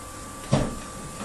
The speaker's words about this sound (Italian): Lo spettro è scappato. Ha anche chiuso la porta. Era uno spettro ben educato.